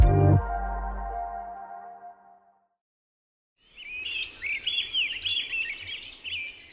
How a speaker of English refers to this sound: To human ears, birdsongs are beautiful background noise.